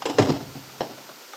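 An unlocked door opens with a quick rattling clunk of the latch, followed a moment later by a second, softer knock as it swings; no voices are heard.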